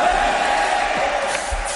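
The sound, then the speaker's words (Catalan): The audience at a La Resistencia special edition show in Barcelona shouts and cheers in a sustained, loud roar, many voices blending into a dense wash of noise with a few sharper whoops rising near the end. “¿O estáis gritando porque gritáis todo lo que diga?”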